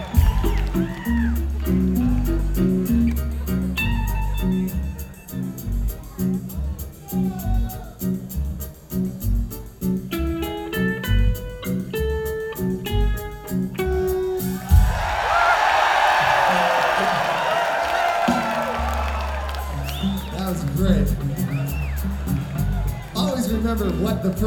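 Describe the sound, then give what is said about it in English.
Loud, steady music with a thumping beat gives way to a sudden burst of crowd cheering and whooping as the crowd turns around as if the band were at the back of the room, lasting several seconds before the beat comes back. “If you hear that, it means suddenly turn around and start cheering as if the band is at the back of the room.”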